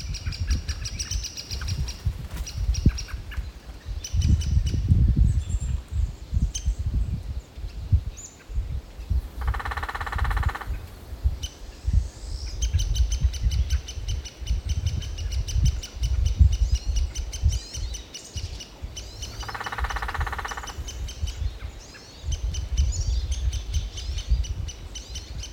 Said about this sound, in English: This has been WSHU's Bird Song Break, featuring the downy woodpecker.